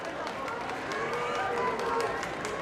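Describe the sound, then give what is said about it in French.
Crowd applause crackles steadily over a murmuring throng in Barcelona as Felipe and Laetitia step out of their car at the opera, with thin, high whistles sliding through the clapping partway in. The whole scene is busy. “Sortie de voiture, parmi les applaudissements, on entend les premiers sifflets.”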